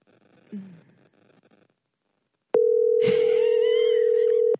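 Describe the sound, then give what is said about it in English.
A phone rings on the line while the caller waits for an answer: after a few quiet seconds, one loud, steady ringback tone holds for about two seconds, with faint hiss underneath. “Why does it keep ringing and not going to voicemail?”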